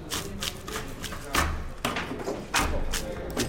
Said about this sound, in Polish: Panowie robicie? Demontaż. Demontaż drzwi. No bo to później spychacz wszystko zawali, to szkoda. Można coś uratować.